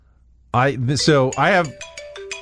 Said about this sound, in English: All right, so at 8:29, which is in 20 seconds, my alarm should go off, and I'll give you the sound that it makes.